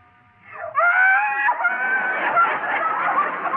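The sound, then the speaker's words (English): A hungry baby bursts into loud, high-pitched crying: a quick rising wail that breaks into a sustained, strained, raspy cry, continuing steadily with no one talking. “Oh, that's not a baby. It's a time bomb. Well, it's not his fault. He's hungry.”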